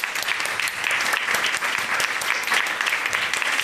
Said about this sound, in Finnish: Hei, kiitos kaikille. Annette isot aplodit meidän vieraille.